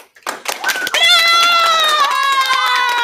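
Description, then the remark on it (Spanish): A studio audience present during a recording breaks into genuine, loud applause, scattered claps quickly giving way to sustained, high-pitched cheering and whooping that holds steady over continued clapping. “Para los amigos de la casa, todo este aplauso es verdadero.”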